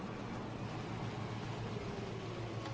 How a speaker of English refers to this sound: Addison pulls up in his car opposite Mrs. Pell's house.